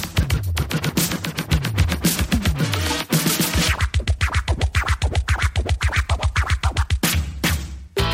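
Loud, aggressive turntable scratching over a driving hip-hop beat, with rapid rhythmic back-and-forth cuts and sweeping pitch glides stuttering in quick bursts, brief break near the end.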